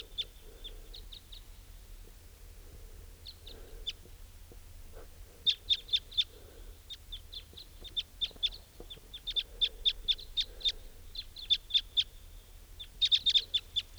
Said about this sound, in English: Place is crawling with crossbills. And they've gone to join some other wild type 2 bird at the edge of this clearing here.